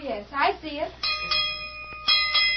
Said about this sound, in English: you better go out and give that bell rope a couple of good yanks. That'll bring the boys in.